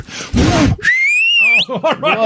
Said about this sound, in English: Holy crap, is that loud. I learned to do that when I was playing softball with the boys, and they didn't let me play. And you know, when I did that whistle, it came out of my mouth. They let me in.